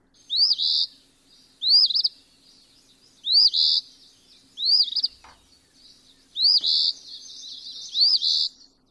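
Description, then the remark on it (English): A phoebe repeats its sharp, buzzy two-part call, spelled fee-bee, six times at steady intervals, each note rising and slurring, clear with no voices. “The bird's name derives from its call.”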